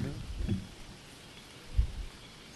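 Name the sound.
wind blowing outdoors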